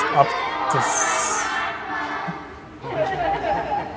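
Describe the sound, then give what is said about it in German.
A procession of children marches past with a leader, their many overlapping voices chattering and calling out in a steady, busy murmur that briefly thins before swelling again. “Weiß nicht, ob man das hört. Wir haben hier ein klassischer Satz in einem hier ist ein Zug Kinder aufmarschiert mit Zugführer und ich glaube, es ist auch ein Offizier dabei.”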